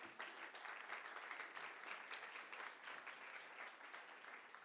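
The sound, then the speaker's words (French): An audience applauds three young men called up to join the speaker, a dense crackle of many hands clapping at once that holds a constant level for several seconds without pause or voices. “On peut les applaudir aussi.”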